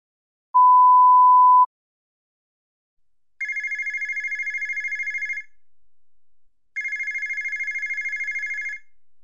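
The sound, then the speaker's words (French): A single short beep tone, then a telephone rings twice before a call to a hotel to reserve a room, each ring a rapid warbling trill lasting about two seconds, separated by a brief pause. Clear, with no voices. “You will hear this telephone conversation three times, the second time with pauses.”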